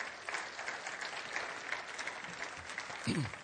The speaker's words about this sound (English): Give one more good clap offering this morning, would you? Come on.